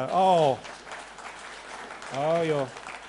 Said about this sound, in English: I didn't think it was worth a round of applause, but again, now that you guys, that's absolutely fine.